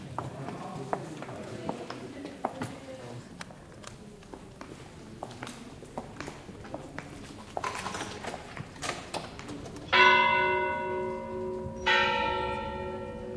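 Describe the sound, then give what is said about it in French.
After several seconds of scattered clacking steps, the large bell of a university tower rings out twice, each loud, resonant stroke hanging and slowly fading, about two seconds apart. “La chèvre, c'est la cloche de la tour de l'université.”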